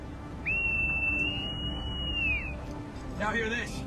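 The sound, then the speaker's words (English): A private blows the whistle from around his neck: a single shrill blast holds one steady high pitch for about two seconds, sliding up at the start and dropping off at the end, over a low rumbling background, followed by a short warbling trill. “The private scrambles for the whistle around his neck.”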